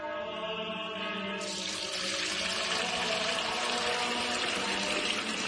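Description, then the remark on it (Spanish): Water pours steadily into a container, a continuous rushing splash that grows slightly fuller partway through, with no voices. The water is Fuente Umbría pure spring water, used as holy water. “Padre Gilberto, ¿qué hace? Hermano Pedro, es que no nos quedaba agua bendita. Agua pura de manantial Fuente Umbría.”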